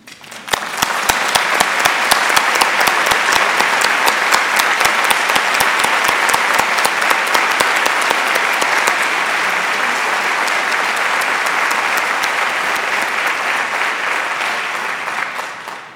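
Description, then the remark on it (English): An audience applauds staff members of a unit as they stand up, steadily for about fifteen seconds, dense overlapping claps at a constant loud level that fade slightly at the end, with no voices over them. “I'd also like to ask any staff member who works in this unit who's here with us today to stand up so we can applaud you.”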